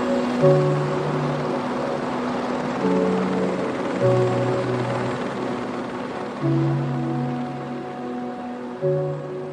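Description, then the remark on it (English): A helicopter flies, its steady engine drone and rotor hum filling the scene with shifting harmonic tones as it holds a continuous, moderately loud presence throughout. “Like legally and for safety reasons, you can only fly a chopper over the ice cap if you've a minimum of 200 metres visibility.”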